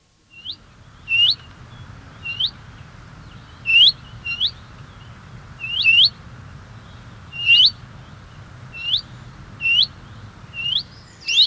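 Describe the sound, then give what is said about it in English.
Willow warbler song: short, high, clear notes repeated at a steady, even pace, each bright and distinct, carrying over a low rumbling background with no voices. “Here's a comparison with the willow warbler first.”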